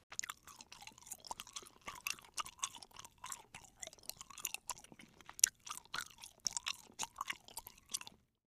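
Steady chewing of a cube of soft, sticky rose-flavoured Turkish delight, with wet smacking and faint crunches repeating about twice a second for several seconds, no voices present.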